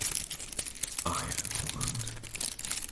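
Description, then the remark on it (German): Dry, papery crinkling and crackling of brittle dried serrated wrack, a seaweed (alga) material, a dense run of sharp irregular crackles with brief murmured voices underneath. “Hört sich auch schon fast so ein bisschen an, wie es vielleicht heißt. Ah. Knisterkraut.”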